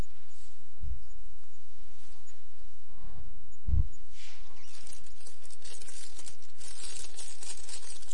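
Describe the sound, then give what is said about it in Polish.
Paper rustles and crinkles as sheets of paper and pens are handed out, with a couple of soft low thumps early on and a steady shuffling texture building toward the end, no one speaking. “Ja bym poprosił, żeby rozdano kartki.”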